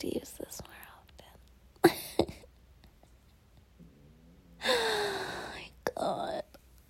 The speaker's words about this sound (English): My stomach rumble there. I'm gonna eat something.